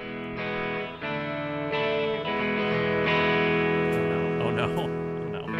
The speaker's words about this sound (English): Do you like my reverb?